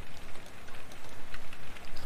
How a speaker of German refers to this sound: Du hörst jetzt frisch aufgenommenen Regen aus der letzten oder vorletzten Woche. Dazu pack mal wieder einen leichten Filter.